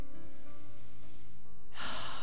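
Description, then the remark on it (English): A deep, audible cleansing breath drawn in near the end during a guided meditation, rushing and airy, rising over a soft sustained musical drone that plays throughout. No one speaks. “Take a big cleansing breath in.”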